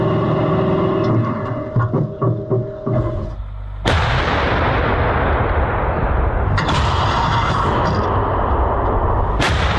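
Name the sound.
self-propelled artillery gun firing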